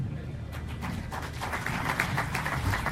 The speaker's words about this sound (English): Okay. What a superb answer. Another round of applause for that closing statement. Thank you for that.